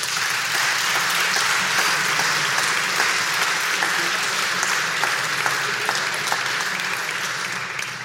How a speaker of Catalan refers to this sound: Un aplaudiment per tothom.